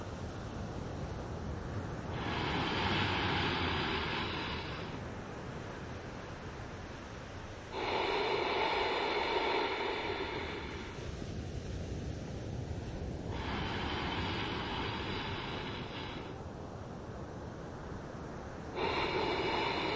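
Slow, throaty Ujjayi (ocean) breaths, drawn through the nose with the throat contracted, rush in and out, roughly four drawn-out hissing breaths in a steady rhythm, like ocean surf, with no talking.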